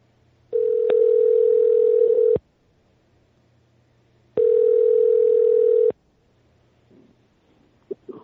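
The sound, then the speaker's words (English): Two long, steady telephone tones of an on-air call being placed to a radio show guest, each lasting about two seconds with a pause between them, loud and clear over a quiet line with no one talking. “And Chuck is going to get Abba on the phone right about now.”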